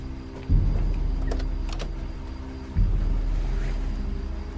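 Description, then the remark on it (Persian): A car engine rumbles steadily as the car is driven out of a yard, its low drone swelling twice as the vehicle moves off, with faint mechanical clicks and no voices. “حجت ماشین عمادو از حیات آورده بیرون.”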